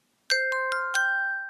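A quick run of four bell strikes, each adding a bright metallic tone that keeps ringing and overlapping the others, then sustains and fades slowly. No talking underneath.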